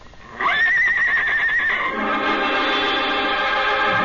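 horse whinnying

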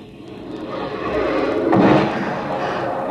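fireworks exploding

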